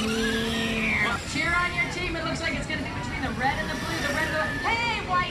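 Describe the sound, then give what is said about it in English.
A remote-controlled truck, its bed filled with turkey food, races among chasing turkeys outdoors in a small stadium near a carnival ride, with warbling bird calls rising and falling over a steady hum while a crowd chatters continuously in the background. “fill a bed of a remote-controlled truck with turkey food, and then they're off.”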